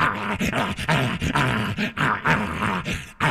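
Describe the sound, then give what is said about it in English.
A wolf caught by the tail with a lasso growls and snarls continuously for a few seconds, loud, with rough, agitated bursts as it jumps wildly trying to get loose. No voices. “Feeling himself caught, the wolf began to jump wildly,”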